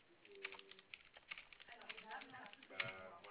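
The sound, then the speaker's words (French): Quiet, irregular tapping of computer keys, a quick run of small clicks with brief pauses between bursts, and a faint voice murmuring underneath. “Alors, bougez pas, je vais sur mon ordinateur.”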